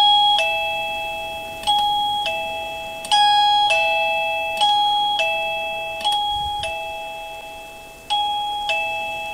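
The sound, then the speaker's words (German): A doorbell of a house on Pilzweg chimes repeatedly as someone rings it, about a dozen bright two-tone dings in quick succession with ringing decay between presses, clear with no voices. “Ich klingel einfach mal hier an einem Haus im Pilzweg.”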